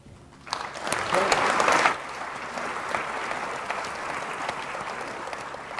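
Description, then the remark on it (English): An audience at a question-and-answer event bursts into applause, loud dense clapping that peaks for about a second and a half, then settles into steadier, softer clapping that continues to the end. “In the interest of time, I will ask our audience to try to minimize applause throughout the program so that we can get to as many questions as possible.”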